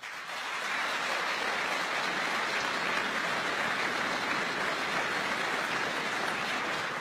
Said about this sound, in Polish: Witam parlamentarzystów, samorządowców, a przede wszystkim kandydatów do Parlamentu Europejskiego. Ogromne brawa.